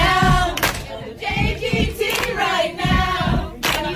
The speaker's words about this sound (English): But he was just clapping kind of weird. Okay. I saw the video. Now, here goes the audio. This, you can't see the video because you're listening on the radio, but it was just this weird clap.